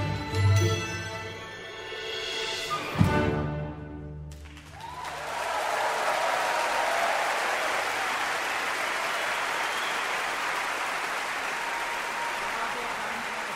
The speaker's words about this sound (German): Großer Applaus für die Berliner Vokalhelden und ihr aktuelles Projekt Zum Mond und zurück.